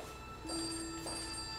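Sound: telephone ringing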